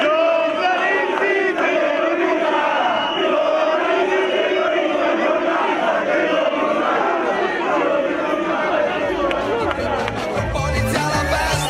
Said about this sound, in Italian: Giornalisti figli di puttana, vabbè, ognuno si diverte come si diverte. Sembrava un coro da stadio, una di queste cose qui.